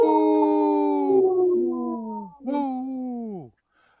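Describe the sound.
A person howls like a wolf: one long, loud, wavering howl that slides downward, then a shorter second howl falling in pitch, with no talking.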